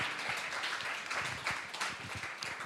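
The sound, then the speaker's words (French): An audience in Neuchâtel applauds the Lord at a celebration of Jesus's resurrection, many hands clapping in a dense, steady patter of overlapping claps that holds at an even, moderate level throughout, with no clear voices. “Et on proclame ça, oui, qu'on puisse applaudir le Seigneur.”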